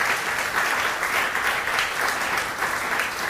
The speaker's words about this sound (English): Let's give them a nice big round of applause.